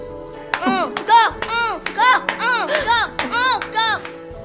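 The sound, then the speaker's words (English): A series of about eight quick hand claps in a lively rhythm, each paired with an excited, high-pitched vocal sound, like someone squealing with delight while clapping at a projected image of a skull in a ghost show. “An excitable … claps.”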